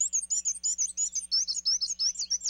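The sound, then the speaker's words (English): A black-and-white warbler sings a thin, very high-pitched series of squeaky two-part notes, repeated rapidly and evenly like a turning wheel, with no voices. “You can help black and white warblers by turning off outdoor lights and shading your windows at night, especially during migration season.”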